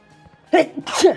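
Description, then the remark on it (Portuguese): A person sneezes, loud and explosive, a sharp burst followed quickly by a second, bigger blast, with no talking around it. “Espirrei, eu disse que ia espirrar, meu ouvinte.”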